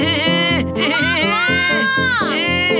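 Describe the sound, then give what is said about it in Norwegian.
A child wails and cries loudly in drawn-out sobbing bursts that rise and fall in pitch, continuing without pause for a few seconds; the crier is the little brother, Georg Gris. “Du bare gråter og skriker, jeg prøver å leke med han, det ikke noe gøy å leke med han.”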